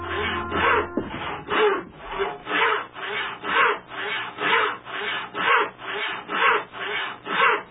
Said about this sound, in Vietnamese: Một nhóm người đặt chân đến khu rừng và cưa những thân cây.